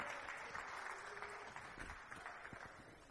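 A crowd applauding with steady, dense hand clapping that holds at an even loudness for a few seconds, with no voices standing out.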